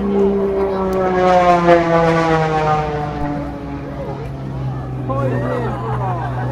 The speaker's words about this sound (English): Hello, plane. Oh, hey, look, it's making smoke.